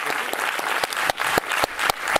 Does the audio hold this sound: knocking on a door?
no